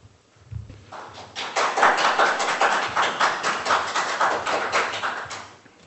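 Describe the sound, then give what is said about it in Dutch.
Applause from the public gallery at a municipal council meeting after a speech: a crowd's dense, steady clapping rises quickly after a quiet start, holds at a moderate level for several seconds, then tapers off at the end. “Mochten de mensen die op de tribune nu aan het klappen waren in de toekomst nog vaker op de tribune zitten, dan moet ik ervoor waarschuwen dat ik moet verwijderen als u dit soort uitingen doet.”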